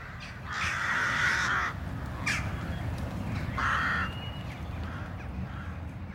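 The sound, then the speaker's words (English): Rooks caw harshly from a rookery in a cottage meadow where they are nesting, a few long rasping calls and a short one, over a steady low rumble of background noise. No one speaks. “The crows in the cottage meadow at the moment, they're all nesting here. They do have the rookery here.”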